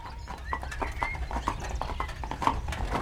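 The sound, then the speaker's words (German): Hooves of a horse-drawn carriage clip-clop in a steady, moderately loud rhythm as it carries a passenger up a steep approach to a fortress command post before 9 in the morning, with a low rumble of wheels underneath and a brief whinny mixed in. “Am nächsten Morgen ließ ich mich noch vor 9 Uhr in der Kutsche zur Kommandantur der Festung bringen.”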